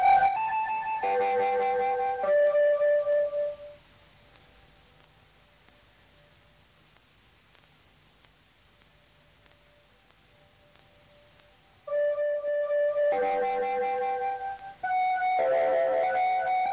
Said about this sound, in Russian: Заставки начинаем, как полагается, что уж. Колокольчики знаменитые.